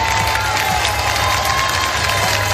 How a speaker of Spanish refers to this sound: Y mientras, en España, en Huesca, se ha celebrado el desfile del Día de las Fuerzas Armadas, una cita que han presidido sus majestades los reyes de España, que han sido recibidos por un caluroso aplauso de los ostenses.